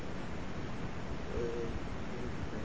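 A single soft owl hoot rises briefly in the middle, partly buried under a steady rushing background like wind or surf.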